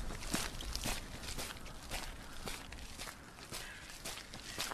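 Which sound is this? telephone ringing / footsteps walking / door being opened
footsteps walking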